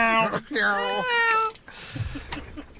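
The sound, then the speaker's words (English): A cat meows loudly, a short cry followed by a long, wavering, drawn-out meow that sounds almost like a child's wail, then fades into soft rustling noise. “Cats to me sound eerily like children or babies.”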